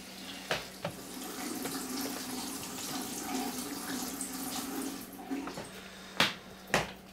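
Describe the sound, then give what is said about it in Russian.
A faucet runs steadily into a sink with a broad hissing wash, punctuated by a few sharp clinks and knocks of dishes, the loudest near the end, with no one talking. “Сами, блин, мойте свою посуду. Вернулась! Вернулась, я тебе сказал. Воду выключи за собой.”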